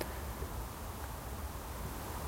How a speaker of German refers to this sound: Hört man die Autobahn.